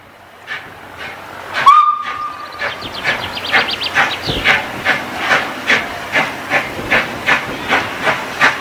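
A museum steam tram departs from the platform toward Medemblik with a short shrill whistle, then a steady rhythm of hissing exhaust chuffs that quicken and repeat, loud and alone without talk.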